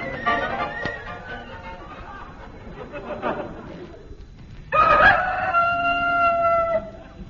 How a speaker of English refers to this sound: We included that recording of a cockerel for people who like that sort of thing.